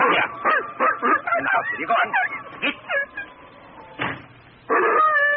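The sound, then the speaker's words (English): An old hound dog howls and whines at night in a run of wavering, drawn-out cries, rising and falling in pitch with short breaks between them. “Enough of that now. Lie down. Chicken-hearted old hound.”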